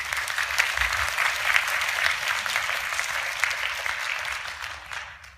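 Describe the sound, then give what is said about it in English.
An audience claps steadily for a panel for several seconds, a dense, even patter of many hands at moderate loudness, thinning out slightly at the very end. “So a round of applause for our panel.”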